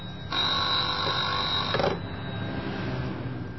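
A telephone at a company's office rings once with a sustained, bright electronic trill lasting over a second, then stops, leaving a low background hum. Clear, with no one speaking.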